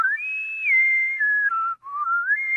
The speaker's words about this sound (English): I used to sit in school. I'd bite my fingernails like this, and I'd whistle.